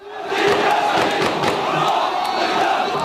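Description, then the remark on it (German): A large crowd of many voices chants and shouts together in a dense, continuous roar, with rhythmic bursts of raised voices rising above the steady, loud din, as the crowd carries a body through Gaza City in the morning during a funeral procession. “Am Vormittag trägt die Menge einen Leichnam durch Gazastadt.”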